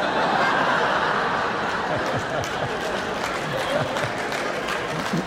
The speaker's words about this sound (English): You know, the people clapping are parents.